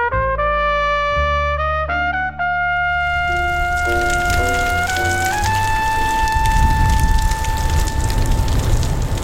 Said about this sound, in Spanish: La lluvia y un frío intenso te acompañaron este lunes